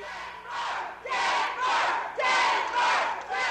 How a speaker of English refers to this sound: And what they're yelling is Denver, Denver, Denver, unhappy with the way it was going for Hillary Clinton.